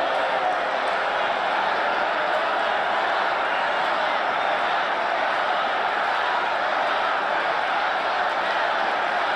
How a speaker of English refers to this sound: So the crowd chanting, lock her up.